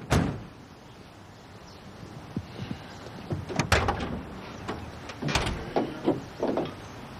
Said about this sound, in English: He inspects the engine, then shuts the hood.